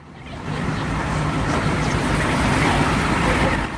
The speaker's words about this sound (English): Children playing baseball on a street scoot off to make way for a yellow school bus with red lights flashing. It pulls up outside a house.